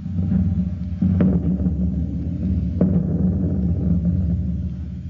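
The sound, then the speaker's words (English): An ordinary window screen is shaken and amplified as a radio sound effect, used on the Star Spangled Theater, to imitate distant thunder: a deep, continuous rolling rumble lasting several seconds, with a couple of brief crackling bursts around the middle. No one speaks. “Now, wouldn't you be surprised to know that what you hear as thunder was simply an ordinary window screen being shaken and the sound being increased or amplified?”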